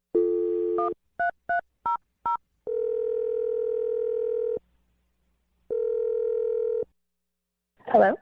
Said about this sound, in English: All right. I'm going to dial the phone number right now. Here we go.